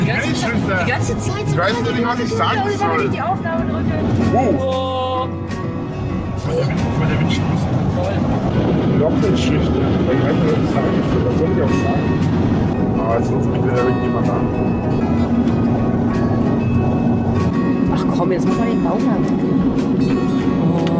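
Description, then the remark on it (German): A loud, steady vehicle interior rumble drones throughout, with low road noise filling the background while people talk over it. “Das Auto ist leider sehr laut, ich weiß nicht, ob ihr sie hört”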